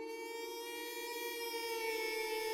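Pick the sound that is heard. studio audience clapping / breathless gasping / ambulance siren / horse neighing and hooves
ambulance siren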